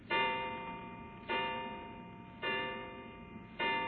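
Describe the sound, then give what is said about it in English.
A clock strikes the hour with four evenly spaced, resonant chimes, each one ringing out and slowly fading before the next, with no voices present. “11 o'clock.”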